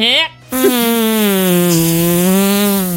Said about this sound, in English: Those farts are weak. They're muffled by a human face